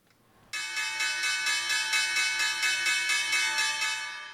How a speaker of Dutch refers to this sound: Ja, dat is alweer de bel van de laatste ronde in het Beurscafé